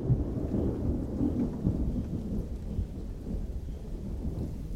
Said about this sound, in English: It must have been, when the lightning storms that they had, it must have been fantastic to be there and rather frightening.